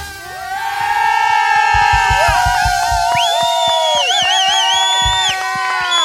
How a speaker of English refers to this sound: Cheer like that, okay? On the count of three.